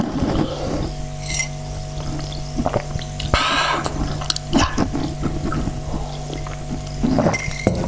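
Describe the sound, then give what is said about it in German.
Water is poured for tea in a steady, hissing stream with a few light clinks of a cup, over a constant low mechanical hum. No one speaks. “Jetzt noch ein schönes Wasser dazu.”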